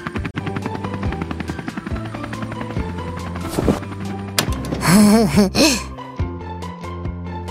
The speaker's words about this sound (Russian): Смотрите, в небе вертолет с грузом.